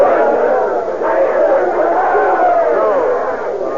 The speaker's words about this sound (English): What's all that shouting about?